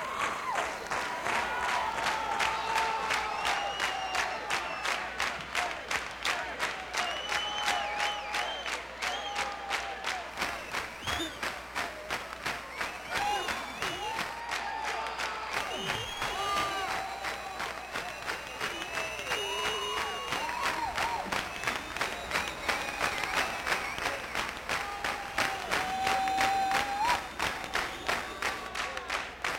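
A large concert audience at Taft Auditorium in Cincinnati, broadcast live on WEBN FM, applauds steadily with dense, continuous clapping, punctuated by whistles and scattered cheers and shouts, sustained at an even loudness for the full half minute, apparently after a band finished its set.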